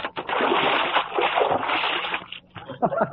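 A loud burst of water splashing and sloshing as a bucket of water rigged over a classroom door tips when the door is opened and dumps its contents, followed by a few smaller splatters and drips trailing off.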